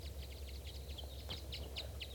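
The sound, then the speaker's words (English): A large flock of at least four or five wild birds chittering: quick, high-pitched chirps in rapid, uneven bursts, fairly soft, over a steady low hum, with no one talking. “And there's another bird around here chittering.”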